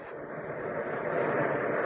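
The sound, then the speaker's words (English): A steady, broad roar of ocean surf on the Western Ocean, swelling slightly louder over its short span, with no distinct breaks between waves and no voices. “It's the noise of the great salt water, the Western Ocean.”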